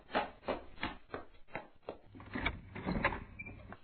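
A door is opened for the father arriving home after dark, with a series of irregular wooden clunks and rattles, moderately loud, with no one speaking.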